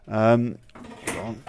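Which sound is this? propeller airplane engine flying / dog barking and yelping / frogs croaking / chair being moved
chair being moved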